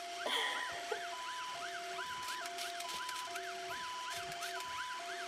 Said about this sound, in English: You can't hear the sound? No. Not anymore. What about now? Yeah. A toy truck. Well, it's gone again. No, that's better.